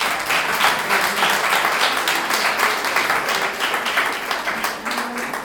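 A crowd applauds steadily, many hands clapping in a dense, continuous patter that stays loud for several seconds without speech.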